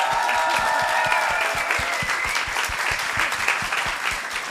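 A crowd applauds steadily, many hands clapping in a dense, continuous patter at close range, with faint voices and cheers mixed in.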